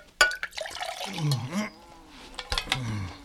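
Water splashes and glugs as it is poured into a vessel, followed by a clink and more liquid sloshing, moderately loud with no talking.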